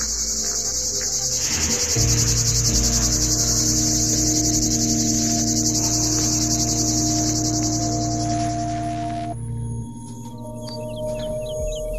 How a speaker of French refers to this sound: Cigale commune.